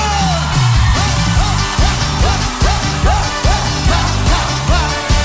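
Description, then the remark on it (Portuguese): A loud, dense roar of an audience at a live music show shouting and cheering, sustained throughout with rising whoops repeating in a steady rhythm, continuous without a break. “Solta o grito!”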